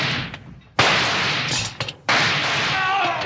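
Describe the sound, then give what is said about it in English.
Two sudden, loud gunshots about a second apart, each bursting out of quiet and trailing into a long, harsh, crackling roar; a gun fired by yanking a rawhide cord looped around its trigger. “Oh, it worked, Bill. He fired at the first strike.”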